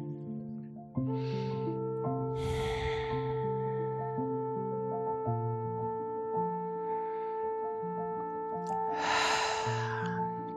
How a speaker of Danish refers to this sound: Tag et par gode vejrtrækninger. Pust ud igennem munden med et suk. Tag to vejrtrækninger mere her.